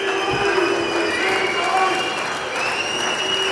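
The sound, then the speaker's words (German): A large crowd at the members' meeting in Dortmund applauds steadily while sharp whistles cut through, several long piercing tones rising above the dense clapping for the whole stretch. “Pfiffe, Applaus.”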